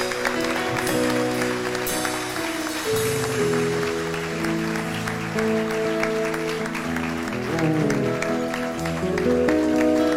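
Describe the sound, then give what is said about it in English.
An audience at a church service claps steadily and loudly for about ten seconds, cheering on a man as he walks forward, while sustained music, like organ or choir chords, plays underneath; no clear voices or shouts stand out. “Let's cheer him on, guys.”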